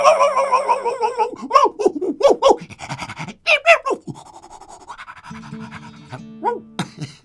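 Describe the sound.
A person mimics a dog with a run of loud, sharp vocal barks and yelps, some pitched and howl-like, ending in panting, breathy sounds; energetic.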